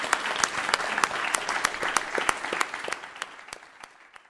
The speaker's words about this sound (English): Thank you. Thank you. Can we have a final round of applause for both of our excellent speakers today?